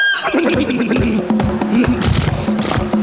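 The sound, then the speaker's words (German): A horse whinnies loudly over the rattle and clatter of a moving carriage as the coachman and horses hurry, with sharp hoof-like knocks continuing throughout, and no talking. “Und die Pferde beeilen sich.”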